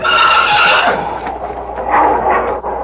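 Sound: wolf snarling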